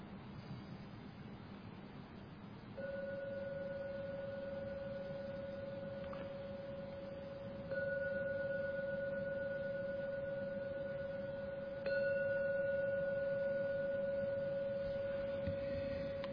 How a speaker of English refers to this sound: And hearing the gong 3 times.